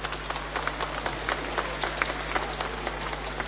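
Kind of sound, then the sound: crowd, crowd applause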